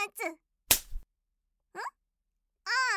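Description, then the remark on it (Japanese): A single sharp, loud slap of a hand on skin cracks out like a whip, imitating a rider whipping a horse during a game of playing horse, framed by short wordless vocal sounds before it and a longer drawn-out voiced cry afterward. “ほら、馬ってさ、乗ってる人が鞭でお尻を叩いたりするでしょ？せっかくのお馬さんごっこなんだから、私も真似したいじゃん。”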